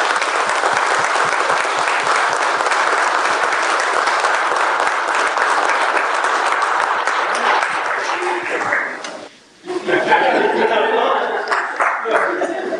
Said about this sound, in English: And this is just a firsthand example that you all get to share in that shows, you know, the amount of dedication that our officers have. So let's give them one more round of applause.